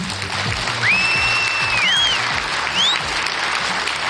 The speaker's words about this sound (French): Je vous demande de les applaudir bien fort, s'il vous plaît.